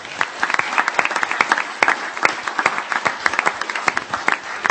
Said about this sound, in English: And all of the judges were just so impressed with these three young men. So I'd like to give them another round of applause, please.